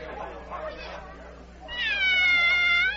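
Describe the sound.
A cat, the Cheshire Cat, lets out a single long, drawn-out meow, fairly loud, right after a brief stretch of muffled talking, during a croquet match.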